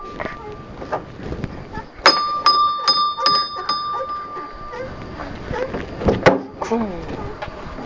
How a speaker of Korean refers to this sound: 땡땡 종을 쳐요. 땡땡땡땡.